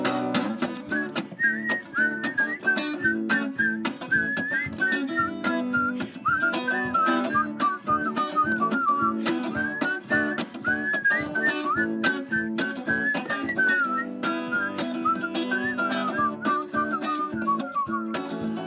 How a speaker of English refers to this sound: Oh, here we go. Okay, everybody whistle.